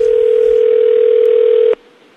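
A single steady ringback tone from an outgoing phone call to a person in the United States picked from the American phone book, loud and clear, holding for nearly two seconds before cutting off abruptly into faint line hiss.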